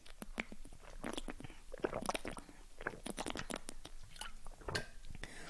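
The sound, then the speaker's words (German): Someone sips and swallows a drink of water, with a busy run of wet mouth clicks, slurps and gulps in an irregular rhythm, fairly loud and with no talking. “Ich muss erstmal einen Schluck Wasser trinken, sorry.”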